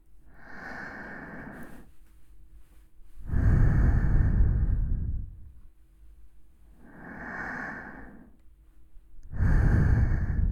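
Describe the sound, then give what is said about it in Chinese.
Slow, airy breathing right by the ear, four long breaths alternating softer inhales with heavier, louder exhales, each lasting a couple of seconds with brief quiet gaps between. No one speaks. “想知道耳边的呼吸到底能不能让人对人”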